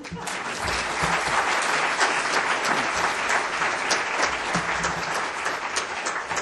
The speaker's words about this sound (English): Now you may clap.